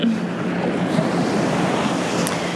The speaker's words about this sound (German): Und ich hoffe jetzt, dass das Meer nicht so laut ist im Hintergrund. Und dass du mich gut verstehst.